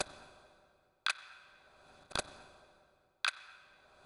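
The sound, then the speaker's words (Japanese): A clock ticks slowly and steadily, four crisp clicks about a second apart, each leaving a brief ringing decay, with no voices. “あなたは時計の音を聞いていくと心が安らぐのを感じるでしょう。”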